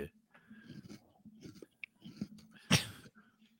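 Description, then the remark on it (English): Crunchy chewing of ribbon-cut yam chips, irregular crackly bites and munching with a sharp, louder crunch near the end, heard alone without talking. “I can't fucking stand this guy sometimes. Fucking crunching.”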